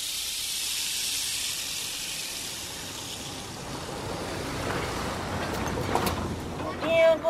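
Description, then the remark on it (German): A boat travels across water back to the Marmelos village on the Transamazonica road, with a steady, rushing hiss of spray and wind, continuous throughout, swelling slightly toward the end. “Ein paar Tage später kehren wir mit dem Boot ins Marmelosdorf zurück, an der Durchfahrtsstraße Transamazonica, wo kürzlich das Jagdfest stattgefunden hat.”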